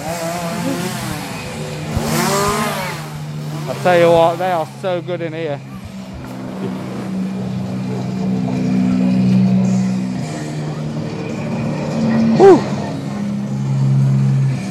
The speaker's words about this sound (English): got like three chainsaws in the corner, didn't you?